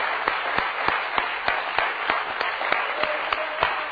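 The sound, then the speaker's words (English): An audience claps together in a steady, rhythmic beat, sharp unified claps landing about three times a second over a dense, continuous wash of scattered applause. “Let's give him a rousing hand clap tonight.”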